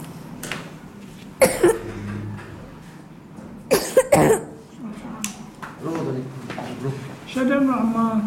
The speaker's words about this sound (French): il a quel âge ? 10 ans. Qu'est-ce qui lui arrive ? Il tousse beaucoup.